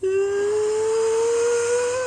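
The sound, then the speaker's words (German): A voice imitates the engines of a Boeing 777 going from idle to takeoff thrust: a loud, steady whine that slowly climbs in pitch for about two seconds, with a breathy hiss underneath and no talking. “Vor allem, die hat ein hervorragendes Geräusch, wenn die Triebwerke von Leerlauf auf Take-off-Schub, also auf Startschub, das macht so ein.”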